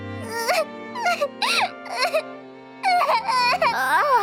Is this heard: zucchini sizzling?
no